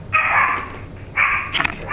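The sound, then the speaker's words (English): During a meeting's roll call, a dog gives two drawn-out, loud barks, almost howling, followed by a few quick shorter yips. No one speaks. “You have a dog here.”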